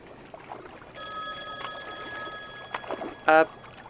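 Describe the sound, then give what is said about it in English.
A payphone rings with a steady, bright electronic trill that starts a second in and swells into a loud burst near the end, over a low background murmur. “the payphone, that's here for some reason. It's ringing.”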